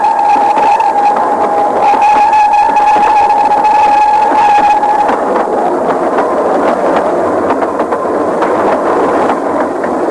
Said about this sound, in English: A rapid train passed below me and was skimming away over the landscape. When the vapor disappeared, I looked down again and saw him refurling the flag he had shown while the train went by.